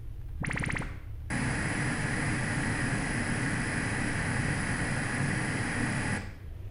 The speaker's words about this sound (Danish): Nu måler jeg så størrelsen på øregangen, og det er også med sådan en lyserød støj her. Jeg starter nu.